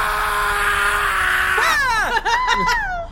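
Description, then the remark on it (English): A steady hiss with a low hum gives way to a loud, eerie shriek, high and wavering as it swoops down and up for the last second and a half. “And then you hear a shriek.”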